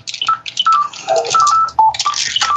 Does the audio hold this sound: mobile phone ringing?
yes